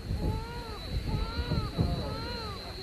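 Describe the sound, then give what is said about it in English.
A steady, rumbling aircraft drone with a thin, constant high whine holds throughout, as an aeroplane flies in to land with its wheels going down, passing over masts by the sea. Faint voices murmur underneath. “I can see the wheels going down. Wave at the aeroplane, darling.”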